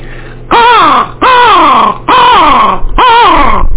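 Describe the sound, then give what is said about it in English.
A voice imitates a crow call, letting out four loud, drawn-out caws in a steady rhythm, each harsh and nasal with a falling pitch, with no talking between them. “Now let me do a crow call for you.”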